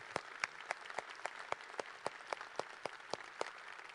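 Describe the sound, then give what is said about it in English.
A crowd applauds steadily to thank those who serve, a dense wash of clapping with a few sharper claps standing out, sustained for the whole stretch with no one speaking. “Let's just give a round of applause just to say thanks to those that serve.”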